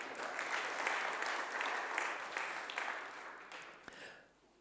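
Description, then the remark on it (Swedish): A burst of applause from a small group for a backflip, steady crackling claps for a few seconds that taper off near the end, moderately loud. “så en applåd för honom.”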